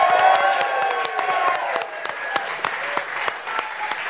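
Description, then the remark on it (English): A crowd in a room at the TMS Live Vegas live event breaks into steady applause, many hands clapping in a dense, continuous patter with a few sharper individual claps standing out, while some cheering and excited voices rise over it. “Give yourselves a big giant round of applause.”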